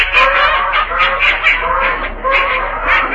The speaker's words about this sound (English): Oh, boy, get a load of those ducks.